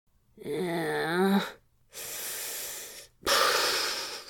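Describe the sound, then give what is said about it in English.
A fairly loud lip buzz as someone blows out a heavy breath through vibrating lips, followed by two long, airy exhalations with a short pause between them. “and then blew a heavy breath out through his lips until they buzzed.”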